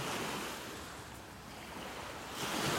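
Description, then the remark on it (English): Ocean waves wash continuously onto the shore in a steady, broad hiss that dips slightly midway, then swells louder near the end as another wave breaks. No voices, just surf. “I keep pausing because I figure you want to listen to the waves as much as I do.”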